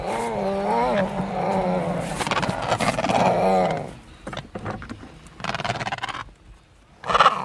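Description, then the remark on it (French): Penguins grunt and squawk in harsh, wavering bursts that sound almost like growling cats, loud, with several overlapping calls followed by shorter rough grunts and a final squawk, as they are released back onto their nest with the eggs. “C'est marrant parce qu'on les entend, ils grognent presque, hein. Ça ressemble presque à des grognements de chats ou de mammifères.”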